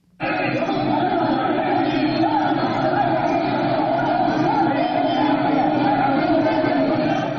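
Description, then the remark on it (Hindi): A loud, dense crowd of protesters on Marina Beach in Chennai, Tamil Nadu, India, at a Jallikattu protest that turned violent, roars continuously, many voices blending into a steady wall of shouting and chatter that starts abruptly and holds at full strength throughout. “इस तरह की आवाजें आज दिन भर चेन्नई में गूंजती रही। पिछले 7 दिन से एक शांतिपूर्ण प्रदर्शन चेन्नई के मरीना समुद्र तट पर चल रहा था, वो अचानक से हिंसक हो गया।”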